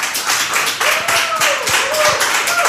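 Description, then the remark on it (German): A crowd applauds performance artist Bridge Markland on Radio 1 with dense, steady clapping that fills the whole stretch at an even, fairly loud level, individual hand claps blurring into a continuous wash, with a faint tonal whistle or cheer riding on top. “Ich bitte Sie um einen großartigen Applaus für die Performance-Künstlerin Bridge Markland.”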